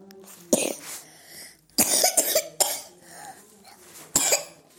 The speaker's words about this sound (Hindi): ओ, खांसी कहाँ से आती है?